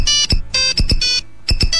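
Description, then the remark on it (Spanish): A bright, synthetic polyphonic mobile ringtone plays a quick, bouncy melody of short electronic notes with punchy bass thumps, looping in a rapid rhythm with brief pauses between phrases. “Y ahora, en cambio, el móvil ha superado en 20 años las modas de los politonos personalizados, las de las carcasas de colores y hasta la de la miniaturización imposible.”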